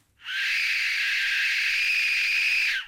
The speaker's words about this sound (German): Die Todespfeifen der Azteken machen Angst. Und zwar mit ihrem Klang. Wenn man in die kleinen, wie ein Totenschädel geformten Instrumente bläst, ertönt eine Art schriller Schrei.